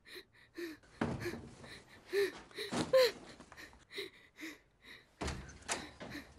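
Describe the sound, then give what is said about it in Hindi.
A door of a house slams shut with a heavy bang, followed by two more loud thuds spread over several seconds, with faint breathy sounds and quiet background noise in between. “नहीं, अब आज के बाद इस घर का कोई दरवाजा बंद नहीं होगा।”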